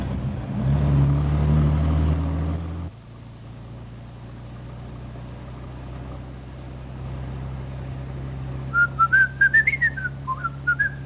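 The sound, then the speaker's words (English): Over a steady low bus engine rumble, someone starts whistling a short, bright tune near the end, a run of clear, wavering notes that rise and fall. “you have the whistle?”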